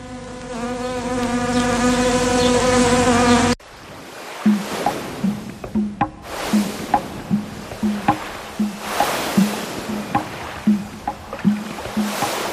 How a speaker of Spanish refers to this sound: Avispas que ya se querían colar, pero esperen un poquito, que esperen un poquito